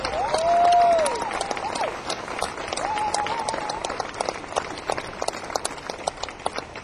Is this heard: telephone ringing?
no